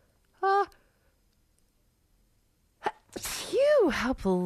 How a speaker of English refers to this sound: Oh, I have to sneeze.